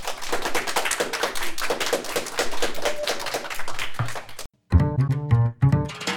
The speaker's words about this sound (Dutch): Maar eerst natuurlijk bij Radiolab ga ik in gesprek met de vijf experts van het Metis Montessori. Graag een groot applaus.